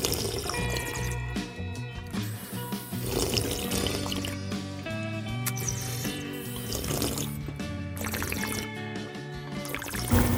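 Someone slurps a drink through a straw, a steady wet gurgling and sucking of liquid that carries on for about ten seconds without pause and with no talking.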